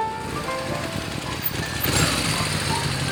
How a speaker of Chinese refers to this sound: 嘟嘟车是什么呀？听起来好可爱。 其实就是有加装引擎的三轮车，很方便哦，可以在大街小巷钻来钻去。